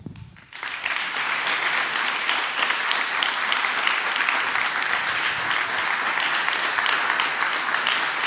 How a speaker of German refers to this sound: Komm, ich will, dass er aufsteht und klatscht. Danke, Zentralwerk.